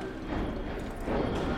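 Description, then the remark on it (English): Horse hooves clip-clop steadily along a street in Boston's North End, a crowded waterfront district of commercial and residential blocks, set in a dense, continuous wash of busy outdoor ambience with an indistinct murmur of voices in the background. “Laborers, residents, commuters, horses, they're all just going about their business.”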